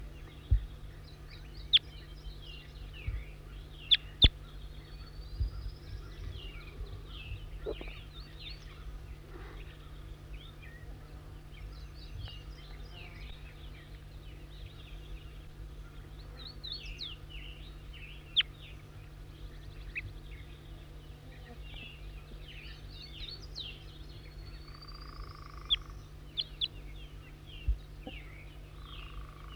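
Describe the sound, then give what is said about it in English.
Wild birds call throughout in a busy, overlapping stream of high chirps, twitters and short trills, fairly faint, with a steady low hum underneath and no voices. “Stop. Wild bird again.”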